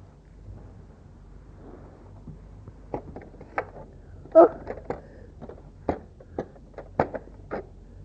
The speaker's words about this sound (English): What's that? That's the door? Yes. That's the door.